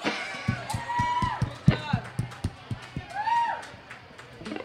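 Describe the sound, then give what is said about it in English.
An audience in Templeton applauds sponsors at a summer band event, sharp claps landing in a fairly steady beat, with rising whistles and scattered cheering from the crowd. “And a round of applause to Rabobank and Castoro Sellers for making the event all summer long possible.”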